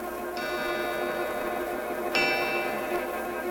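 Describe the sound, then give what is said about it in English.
An old grandfather clock in a clock shop strikes twelve at midnight: two slow, resonant strikes spaced about two seconds apart, each note ringing on with a long, echoing decay. Fairly loud, with no voices. “It's nighttime in the old clock shop, and the old grandfather clock is striking 12.”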